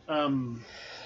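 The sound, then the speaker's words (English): A single sneeze, a short voiced burst that drops in pitch and fades within about half a second, followed by quiet room tone. “bless you.”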